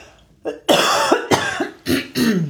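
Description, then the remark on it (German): A loud fit of coughing after eating nuts: four or five harsh, raspy bursts in quick, uneven succession, with a short throaty lead-in and no talking. “Moment, ich muss noch husten.”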